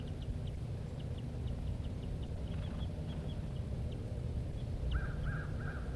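A pair of birds, male and female, calling near their nest: a run of short, high, ticking chips repeats steadily, then a few harsher, rasping calls come near the end, all over a constant low rumble of background noise.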